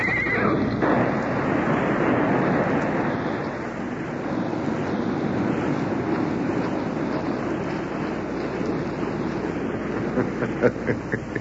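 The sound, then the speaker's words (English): Horses whinny loudly and continuously while hooves clatter beneath, a busy, chaotic mass of neighing and clip-clopping with no talking, as galloping horses trip on a rope stretched tightly across their path. “Before they knew it, the galloping horses tripped on the rope.”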